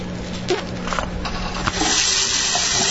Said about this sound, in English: A water rushing down the sink. That's right. A tap water.